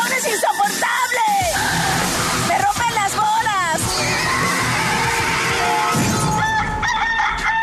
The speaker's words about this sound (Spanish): está el gallo.